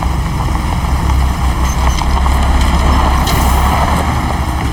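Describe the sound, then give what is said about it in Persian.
Heavy truck engines rumble loudly and steadily, a deep continuous drone with mechanical whine as the trucks pull away heading toward a house, with no voices. “بله قربان، کامیونا دارم میرن سمت خونه آقای پرادان.”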